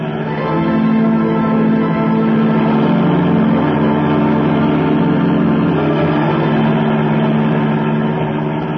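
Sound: taxi engine running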